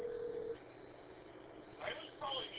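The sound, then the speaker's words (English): Telephone dialing tones over a thin, hissy phone line as a call is placed on a desk phone line: a steady tone for half a second, then two short beeping key tones close together, fairly quiet. “Although I haven't called, I'm going to have to call Fred on my Hoyt line here, just to keep him on his toes.”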